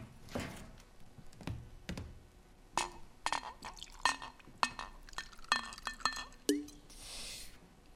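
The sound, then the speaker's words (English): Glass clinks and taps against a tabletop, then a short splashing pour of water from a pitcher into a glass, fairly quiet, with no talking. “A pitcher of water and some glasses are on the table right behind you.”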